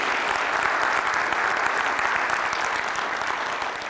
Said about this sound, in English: could you give them a round of applause? Thank you for being here.